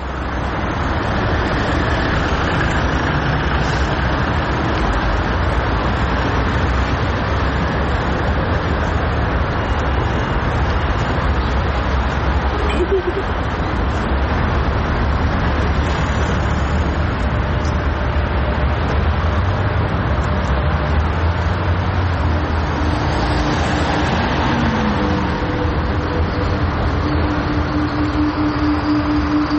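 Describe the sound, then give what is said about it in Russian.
A constant low roar of road traffic in a large traffic jam fills the whole recording, with engine hum rising briefly near the end as a vehicle passes. No voices stand out. “Так бегать по дороге. Тебя могут сбить.”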